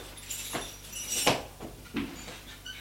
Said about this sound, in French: Et Claire ferme la porte.